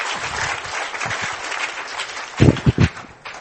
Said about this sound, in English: So without further ado, can you give a hand clap to our speaker